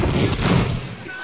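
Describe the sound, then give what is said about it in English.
A bathroom door slams shut with a heavy, booming thud, quickly followed by a short rattle as it is locked. “Because they always win the race to the bathroom, just, and they let you know they're locking up.”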